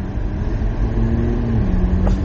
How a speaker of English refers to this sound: So we're finna get like a bunch of 20-ish minute podcasts throughout the week if you feel the need to listen as I slide across the road over a pothole.